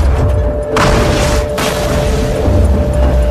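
A loud SpaceX rocket explosion booms out over a constant deep rumble, its roaring blast swelling for about a second before settling back into heavy low-frequency roar. No voices are heard.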